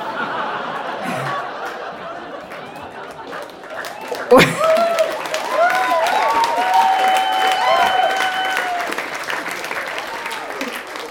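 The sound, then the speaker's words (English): An audience at a Moth story slam in Dublin bursts into sustained applause mixed with laughter and whoops, a dense crackle of clapping that swells after a sharp burst and stays loud to the end. “The fact that you're applauding that part bodes well for the rest of the story.”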